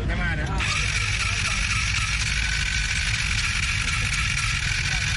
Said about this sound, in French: bɛ ka fɛɛrɛ ɲini waasa ka se ka moto tiɲɛnin dɔ wuli.